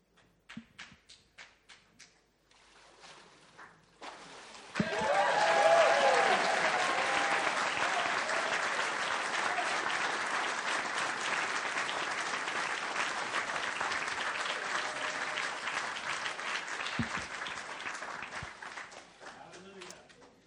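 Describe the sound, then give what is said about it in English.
A few scattered claps start things off, then a church audience bursts into loud, sustained applause for five newly baptised people, holding steady for about fifteen seconds before tapering off into a handful of final claps. “While we do so, why don't we give all five of them a round of applause?”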